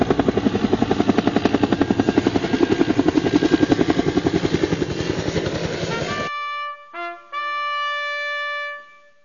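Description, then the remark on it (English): An aircraft taking off, a loud, rapid rotor chop pulsing steadily for about six seconds, then cut off abruptly by a few quick bright horn-like blips and a held harmonic tone. “Prepare for takeoff.”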